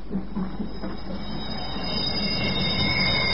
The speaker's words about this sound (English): Ladies and gentlemen, we present the incredible case of the vanishing Flying Scotsman. Stop! Stop that train! Stop! Stop! Stop! See!